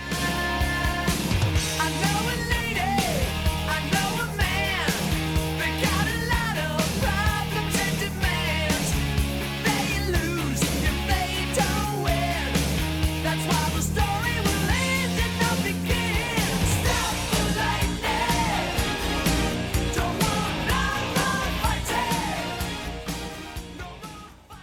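A loud, dense rock track plays continuously for about twenty-five seconds, with driving full-band instrumentation, steady drums and a sung lead vocal weaving over the top, ending abruptly.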